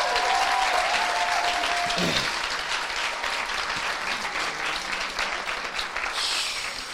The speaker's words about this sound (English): Hey, as a matter of fact, just to give honor, let's give every ministry in this house a clap, because if it weren't for them...